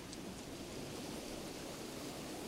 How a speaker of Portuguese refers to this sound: Não se preocupe com os barulhos de trovão e chuva que irá ouvir.